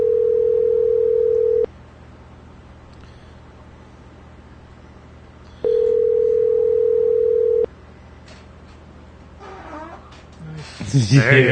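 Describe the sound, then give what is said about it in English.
A telephone call being placed: a steady ringback tone sounds twice in long, evenly spaced rings over faint line hiss, then a voice briefly answers at the very end. “What I'm hoping to do is, actually, I got to go back and got to make a phone call again.”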